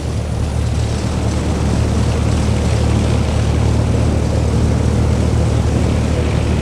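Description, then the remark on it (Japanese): A military aircraft engine runs steadily at military power during the pre-takeoff check while taxiing, a loud, continuous propeller drone with a deep rumbling hum and no voices. “エンジンミリタリー、異常なし。”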